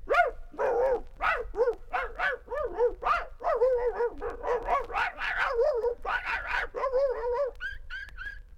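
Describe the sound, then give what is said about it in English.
Someone vocally imitates a frantic dog fight in which several dogs gang up on one dog: a rapid, nonstop string of loud barks, growly yaps and yips, ending in a few short high-pitched yelps. “these dogs ganged up on Ralph, and there was a dog fight, and it went something like this”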